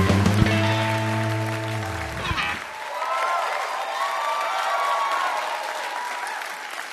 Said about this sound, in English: That was a rapturous applause. Is that the greeting that you get now as a New York Times best-selling author when you enter most rooms?